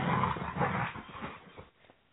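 A dog whimpers and yips in a steady run of whiny cries that fades out near the end, with no one talking.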